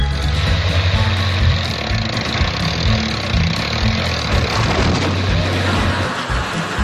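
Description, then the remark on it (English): A tractor engine runs steadily for about seven seconds, a loud, deep rumbling drone with a rough, churning texture and slight surges in pitch, with no voices. “If the sound of the tractor doesn't wake him up, this ought to do the trick.”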